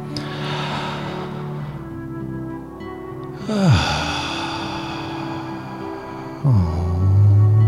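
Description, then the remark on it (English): Slow, deep breathing, with a long inhale and then audible sighing exhales, fairly loud over a steady low droning background. “Breathing deeply.”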